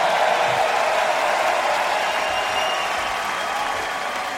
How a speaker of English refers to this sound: See if you can keep that applause going as long as you did from memory.